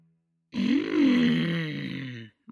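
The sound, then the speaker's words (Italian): A voice imitates a wolf's stomach rumbling with one drawn-out, low, gurgling groan lasting nearly two seconds, fairly loud, rising slightly in pitch before sinking away. “Sentì l'odore del porcellino nella casa e il suo stomaco cominciò a borbottare.”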